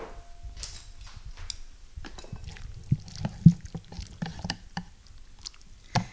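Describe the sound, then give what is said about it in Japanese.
Soup being transferred onto a plate: soft wet sloshing and low splattering, punctuated by scattered sharp clicks and taps of a utensil against dishware, with no one speaking. “さあ、じゃあこれを、味もですね、今食べた感じではもうかなり塩味もしっかりついてて大丈夫なので、このままお皿に移したいと思います。”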